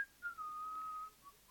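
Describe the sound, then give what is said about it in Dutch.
A person whistles a single sustained, slightly wavering note for about a second, with a brief shorter note after it; fairly quiet, no talking. “Fluiten.”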